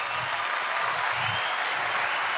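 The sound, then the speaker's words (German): Steady, dense applause from a crowd, many hands clapping continuously at a fairly loud level with no voices standing out. “Ja, das Klatschen, das muss ganz laut sein.”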